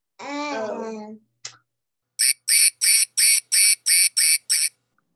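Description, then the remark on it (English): A short burst of voice is followed by eight quick, evenly spaced duck quacks, loud, in a steady rhythm before the sound stops. “And of course, we would like to hear from a duck.”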